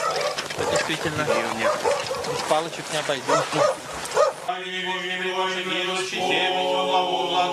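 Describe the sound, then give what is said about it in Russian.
A crowd of dogs barks and yips over one another in a dense chorus, which gives way to sustained high whining tones for the last few seconds. “Собак сколько много.”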